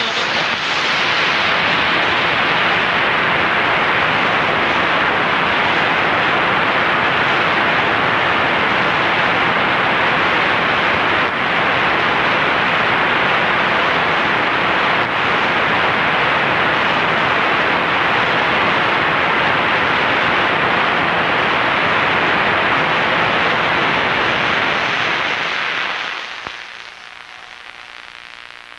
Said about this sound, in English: Notice that hissing sound? If you were able to hear WLW or WGN before, with IBOC being transmitted